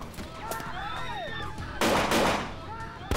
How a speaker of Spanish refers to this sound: De repente, se desató la locura. Había muchos, muchos disparos.